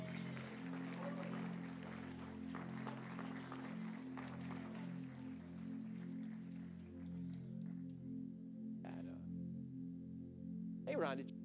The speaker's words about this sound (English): Can you give the families another hand clap as they go?